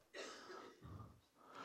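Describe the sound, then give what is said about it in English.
A single sharp sneeze, a sudden breathy burst that trails into a lower, rough exhale and some faint throat noise afterward, with no talking. “Bless you.”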